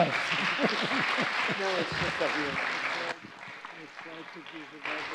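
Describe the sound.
An audience applauds a speaker's conclusion in a dense, steady wash of clapping for about three seconds while a man talks over it; the applause then cuts off abruptly and his speech continues alone.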